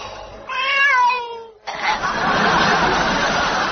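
A very ill-looking cat in Mr. Fawlty's backyard gives a single drawn-out, wavering meow that sags downward in pitch, cut off abruptly and followed by a couple of seconds of loud, rough, noisy clatter.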